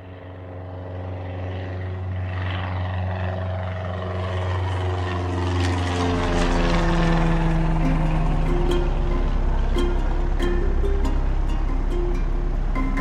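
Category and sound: vehicle, small propeller plane flying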